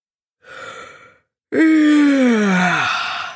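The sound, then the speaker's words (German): A single human yawn: a short breathy intake, then a long, loud voiced exhale that slides downward in pitch and trails off, as the person steps out onto a residence terrace in the late morning. No one speaks. “Gähnt …, als wir am späten Vormittag auf die Terrasse unserer Residenz hinaustreten”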